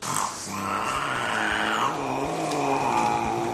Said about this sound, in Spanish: vamos a oír otra vez al gato que imita a una moto